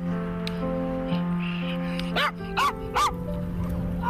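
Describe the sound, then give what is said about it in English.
A dog, one of two dogs, Merlin, a Tibetan Spaniel, and Pi, a Jack Russell, living at the top of Baker Street near Regent's Park, gives three sharp barks in quick succession near the end, over a steady low hum in the background. “And these are my two dogs.”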